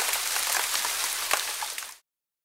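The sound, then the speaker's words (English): Steady rain falls in a dense, hissing wash with scattered sharper drops pattering on a hard surface, fairly loud, with no voices, cutting off abruptly after two seconds. “On Monday, it's rainy.”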